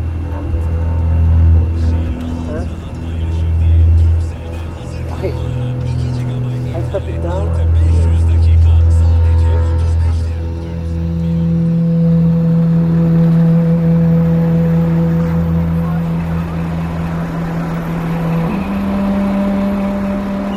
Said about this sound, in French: On va s'éloigner, il y a des bus qui arrivent de partout. Et dans cette gare routière de la ville d'Izmir, les bus venus du sud de la Turquie débarquent un flot ininterrompu de réfugiés